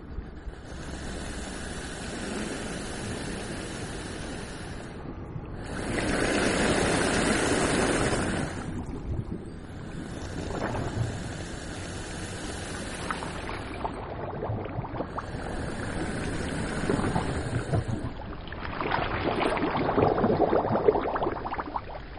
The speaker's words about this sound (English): from the Atlantic Ocean, Saint-Palais Seaside Resort in France. There are many, many caves and holes in rocks, and what sounds like someone's breathing is in fact the air pressure of waves or tides entering the caves, just like a natural water pump.